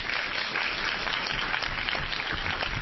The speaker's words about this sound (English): Probably shouldn't do a lot of, I don't want to stifle his enthusiasm, but we probably should do a lot of clapping, so we could just go right to the next person, if that's okay.